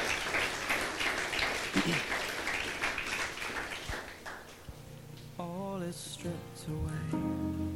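A church audience applauds its pastor with dense, steady clapping for about four seconds, then the clapping thins out as sustained melodic music begins and carries through to the end.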